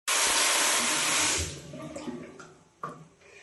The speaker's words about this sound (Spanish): Recuerda, cierra el grifo cuando te estás enjabonando. Así ahorrarás 10 y 15 litros de agua.